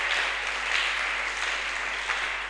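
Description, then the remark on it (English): An audience claps steadily, a dense crackling wash of many hands that holds at a fairly even level throughout, with no voices on top. “Oh, you are not clapping for God.”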